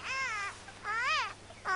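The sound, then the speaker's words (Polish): A baby girl cries from the cold in short, rising-and-falling wails, three bursts in quick succession with brief pauses between, fairly loud with no one talking. “Już dobrze, maleńka, nie płacz.”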